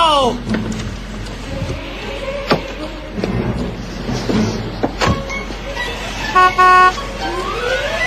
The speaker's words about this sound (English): Nobody honks this horn but me, okay, pal?